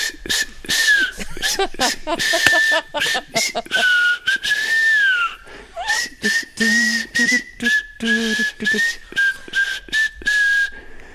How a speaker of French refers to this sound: Siffloteux …, il sifflote les chansons de Noël et on débute ça avec ….